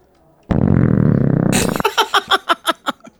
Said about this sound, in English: Was that a belch? I mean, or did my body just reject that drink?